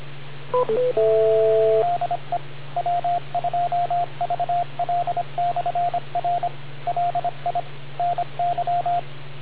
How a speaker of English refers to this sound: I was waiting for the four beeps. Yeah, you timed out the machine